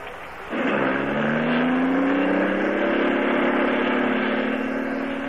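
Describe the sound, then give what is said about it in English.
A car engine starts up with a sudden rise, then settles into a steady, loud hum with a gently climbing pitch as it cruises and gains speed along a highway. No one speaks. “This lets you hum along the highway so nicely.”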